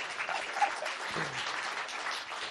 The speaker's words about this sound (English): That's the first time I've ever been applauded in a message before. I think it probably represents the probably some of the vicarious angst a lot of you were feeling, wondering how I was holding up due to all these pressures and stress of building.